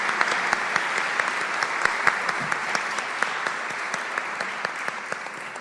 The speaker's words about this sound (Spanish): Pues un fuerte aplauso.